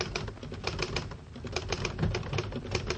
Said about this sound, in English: I'll type it out for you right now on my Underwood typewriter, the only typewriter with the golden touch.